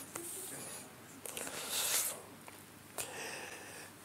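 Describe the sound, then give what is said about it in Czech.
Soft rustling of paper as a speaker searches through his papers, coming in a few brief bursts with a longer crinkly swell in the middle, like sheets being shuffled and turned. No one speaks. “A podíváme se teda, trochu se ztrácím ve svých papírech, to někdy bejvá, ne, znáte to?”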